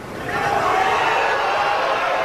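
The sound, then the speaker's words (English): A golf tournament crowd cheers and roars for Tiger as he finishes a round of 64, his lowest ever in a major, the dense wash of voices swelling over the first half second and then holding loud and steady to the end. “Listen to that crowd for a golf tournament.”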